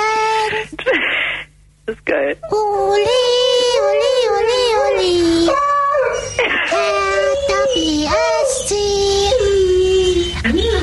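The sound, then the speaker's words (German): A dog, trained to do it as a trick, howls and yowls in long, wavering, melodic tones, loud, singing along to an Eintracht Frankfurt football motivation song, with brief pauses between drawn-out notes. “Deinen Hund ja richtig toll was beigebracht.”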